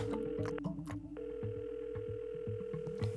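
A telephone ringback tone sounds in long steady beeps with a pause between them during a call to Arvid, heard clearly over a busy rhythmic musical background with no one talking.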